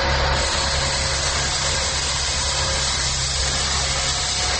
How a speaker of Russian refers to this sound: И вот, пожалуйста, вот такой шум проникает в квартиру через балкон около 7 утра, когда я обычно собираюсь на работу. К несчастью, в этот день поблизости начался еще и ремонт дороги.